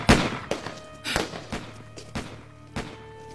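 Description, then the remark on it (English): Gunshots ring out in an irregular volley of about six sharp, loud cracks, each followed by a brief ringing tail, with no voices, during a shootout between police and a gang hiding in the western hills outside a city. “Gunfire! Gunfire! Get down!”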